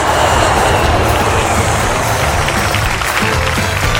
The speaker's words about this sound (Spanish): Por eso los colombianos aplaudimos cuando aterriza el avión.